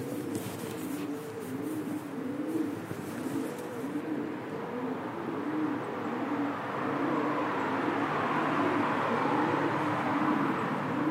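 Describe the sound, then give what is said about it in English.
Many pigeons coo continuously in overlapping, rhythmic low warbles, echoing under the bridge at Abbey Park Road in Leicester as the recordist passes beneath it, over a steady background rumble and hiss. “Just passing under the bridge at Abbey Park Road. As you can hear, the plenty of pigeons about.”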